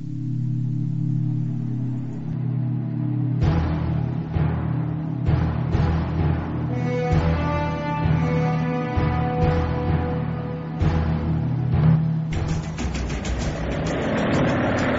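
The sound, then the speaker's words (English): The engine of the President's car, turning onto Elm Street, rumbles steadily, low and throaty, with a few rising revs and clunking mechanical knocks partway through. No one speaks. “President's car is now turning onto Elm Street, and it will be only a matter of minutes before he arrives at the trademark.”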